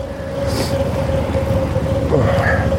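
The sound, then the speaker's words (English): A steady low rumble of idling cars, with a constant engine hum running throughout and no clear voices, from a line of vehicles waiting to get into a parking garage. “Man, look at the lineup of cars waiting to get into the parking garage.”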